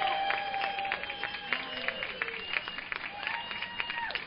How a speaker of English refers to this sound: Congratulations, and one last robust round of applause for the scholarship class of 2017.